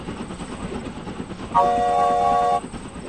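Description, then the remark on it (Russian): A steady rumbling night express steam train passes through a deep hollow, and midway a loud, sustained chime-like steam whistle blows for about a second before cutting off, leaving the rolling clatter. “Новый свисток стряхнул капли росы с пустого неба. Дыша огнем и яростью, ночной скорый поезд пронесся по глубокой лощине, с разгона взял подъем и скрылся.”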